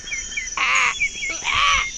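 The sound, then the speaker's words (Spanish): A crow caws twice as a station ident for Zona PUC, a university internet radio station: two loud, harsh, rasping calls about a second apart, with faint high chirping in the background between them. “Soy el cuervo de Comunica.”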